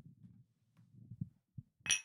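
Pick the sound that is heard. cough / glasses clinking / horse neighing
glasses clinking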